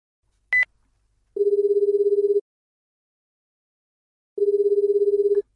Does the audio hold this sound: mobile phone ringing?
yes